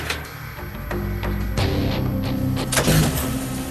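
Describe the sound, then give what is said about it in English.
An engine turns over and catches, settling into a steady low rumble with a rough, pulsing chatter and sharp clanks over the top. “If Gus can't get this engine going, they may have to find a new one.”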